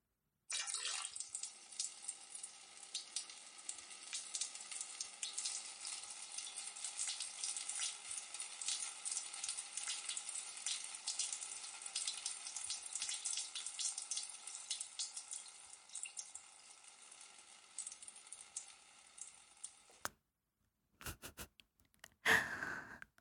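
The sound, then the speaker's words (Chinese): A steady stream of urine splashes continuously for about twenty seconds onto a person's face, a bright hissing patter that stops abruptly, followed by a few brief scattered drips and clatters. No voices. “主人的尿都溅到你脸上了，眼睛、脸上、嘴角，全都是主人的尿。”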